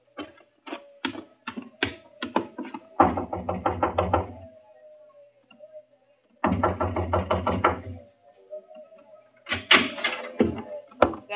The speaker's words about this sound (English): Just knock on the door of the truck.